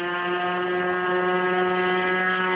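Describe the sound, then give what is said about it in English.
A small electric model aerial photography plane flies again after checks and adjustments, its motor giving a steady, loud, buzzing whine with strong even harmonics that holds constant throughout, with no voices. “A few checks and adjustments and they're up and away again.”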